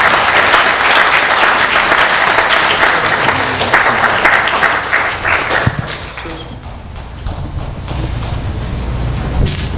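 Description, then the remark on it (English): A crowd applauds loudly for a group of young men as they come forward to share, with dense, continuous clapping that thins and softens partway through before swelling again toward the end. “And would you please do me a favor and just give them a good applause as they come and share.”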